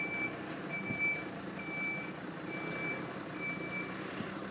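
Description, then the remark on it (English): A lorry reverses in Hasselmüller, its warning beeper sounding a steady series of high-pitched pulses over a low engine rumble. No one speaks. “And now this lorry is going to spoil the silence once more in Hasselmüller.”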